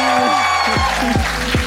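A loud, steady wash of audience applause, with sustained musical tones and a few gliding notes running through it.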